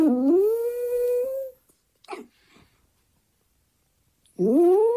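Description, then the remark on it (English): A small dog howls at the camera: a long rising howl, a brief quiet with a soft whimper, then another high howl at the end. Fairly loud, with no talking. “He's having these little howls at the camera.”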